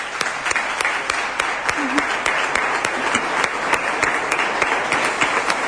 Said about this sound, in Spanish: Yo creo que ella también se merece un aplauso, ¿eh?